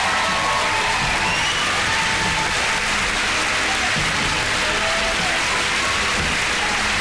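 Sustained studio audience applause, a dense, even wash of many hands clapping at steady loudness for about seven seconds, with no voices rising above it.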